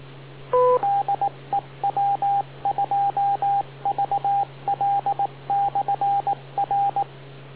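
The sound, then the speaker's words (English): The beep tone of the TechNet radio net: a brief two-tone chirp, then rapid groups of three or four short, identical mid-pitched beeps repeating steadily over a constant low hum on a narrow, radio-filtered channel. “Wait for the beep.”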